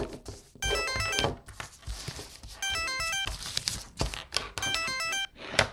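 An old telephone clatters to the floor with heavy thuds while its bell jangles in three loud bursts of rapid metallic ringing, unaccompanied by speech.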